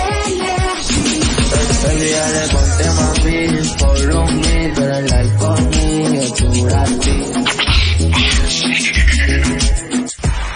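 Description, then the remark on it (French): Loud, full-band music plays continuously, with a steady beat, deep bass notes and layered melodic instruments, and no voices over it. “It's music only.”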